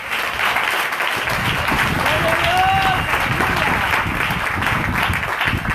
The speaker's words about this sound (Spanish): Denle el aplauso fuerte.